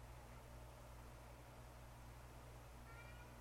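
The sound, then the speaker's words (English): A single short cat meow rises faintly near the end, partly buried in a steady background hiss and low electrical hum. No one speaks. “Meow.”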